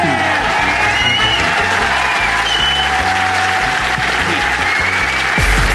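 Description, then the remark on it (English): Loud, sustained applause from a large audience at the Leicester Square Theatre for Adam Buxton, with cheers and whoops mixed in, a dense steady roar of clapping that holds at full strength for several seconds. “But for the moment, will you please give it up for the incredible Adam Buxton, Cat Buckley?”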